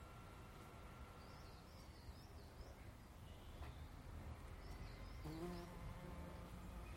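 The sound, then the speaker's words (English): A faint, droning wasp buzz drifts in and out over a quiet outdoor background on a still, calm, mild morning with many wasps about, with a few soft bird chirps and no talking. “Anyway, lots of wasps about this morning. In fact, there's more than I thought. Oh, you can capture a wasp.”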